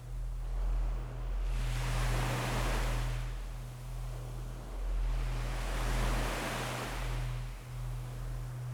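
Gentle sea waves wash in and recede in slow, broad swells, two clear surges, over a soft continuous afternoon breeze and a low steady hum; no voices.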